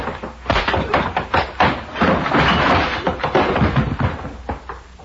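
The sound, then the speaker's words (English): A flurry of dull, heavy punch thuds as a man knocks out a young man, landing in quick, uneven succession, broken by a noisy scuffling rush in the middle before a few more blows, with no talking. “you put that young pup to sleep for the rest of the winter.”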